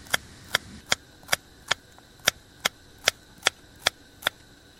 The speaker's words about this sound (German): Als nächstes muss ich die Tomaten schneiden.